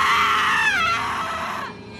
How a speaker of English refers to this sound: At that moment, what felt like a lightning strike went through my nervous system. A surge of adrenaline jump-started by the piercing scream of my mother.